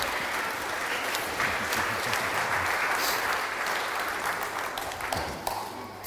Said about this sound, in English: Good, well, thank you very much to all of our volunteers. Give them another round of applause again. Sit down, well done, thank you.